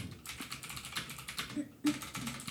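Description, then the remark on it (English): Rapid clacking of keys on a computer keyboard, a steady stream of uneven taps with a brief pause partway through before the typing resumes, fairly quiet overall. “Sorry about my keyboard.”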